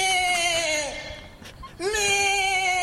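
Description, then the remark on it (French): A human voice mimics a goat with two long, wavering, nasal bleats, the first sliding downward and the second rising sharply before holding steady, separated by a short breathy pause. “Maintenant, la chèvre.”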